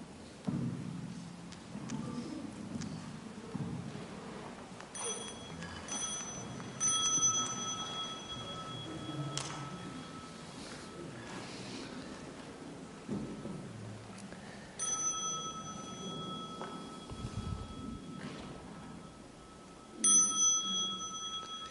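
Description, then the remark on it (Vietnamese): A bell is struck three times, each ring sustaining a long, clear shimmering tone that slowly fades, over a low rumbling background with no talking. “À, bây giờ đại chúng nghe chuông, chúng ta cùng đứng dậy.”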